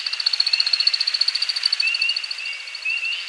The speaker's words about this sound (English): As the sun sets on a northern Midwest forest, we hear a most peculiar sound. It's an American woodcock aloft on a courtship flight.